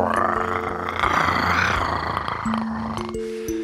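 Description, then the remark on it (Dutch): A deep, rumbling tiger roar swells for a couple of seconds and then fades, with steady sustained musical tones continuing underneath and carrying on after the growl dies away. “En dan ben je geen hondje deze keer, maar een tijger.”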